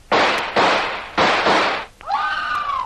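Four loud, sharp revolver shots crack in quick, uneven succession, each with a brief noisy tail, then a high, sustained scream rises and holds until the end.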